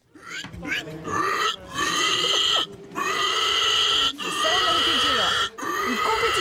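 A pig squeals loudly in long, harsh, shrill bursts separated by brief pauses, with rougher grunting sounds mixed in underneath.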